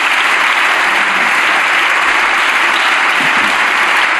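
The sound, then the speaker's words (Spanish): The governing party's parliamentary group bursts into sustained morning applause, a dense, steady wash of many hands clapping at constant loudness for the full four seconds, with no voices standing out. “Está con ganas de aplaudir el grupo gubernamental esta mañana, me da la impresión.”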